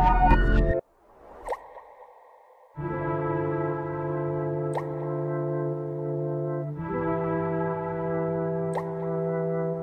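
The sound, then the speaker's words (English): A few sparse water drips plink every few seconds over a sustained, droning musical tone in an album teaser trailer. The drips are clear but spaced far apart, with no talking. “We got water.”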